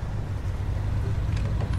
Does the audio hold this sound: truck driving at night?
yes